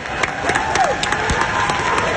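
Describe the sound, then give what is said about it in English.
A crowd applauds steadily, many hands clapping in a dense, continuous patter with a faint whistle or cheer rising briefly partway through. “Clap it up for Tom Kennedy.”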